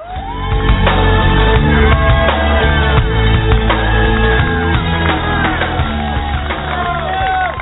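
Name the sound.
rally crowd cheering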